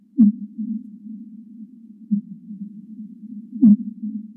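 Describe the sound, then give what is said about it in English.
Two sharp, low downswept fin whale song chirps, spaced several seconds apart, stand out over a steady, droning low hum of underwater noise, with a fainter pulse between them. “These fin whale songs are usually treated as noise by seismologists because they muddy up data gathered at the bottom of the ocean.”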